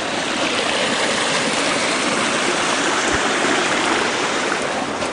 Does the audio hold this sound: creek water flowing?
yes